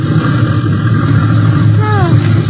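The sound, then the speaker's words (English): A small airplane engine drones loudly and steadily throughout, a continuous propeller hum, with a brief shift in pitch near the end as it comes in to land in a small field. “I'm going to set her down.”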